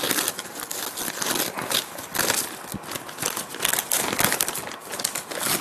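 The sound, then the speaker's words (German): Wrapping paper crinkles and rustles continuously as a gift, a book, is unwrapped, with irregular bursts of crisp crackling and tearing-like swells, fairly loud and without any talking. “aber vorher möchte ich, dass du mein Geschenk auspackst.”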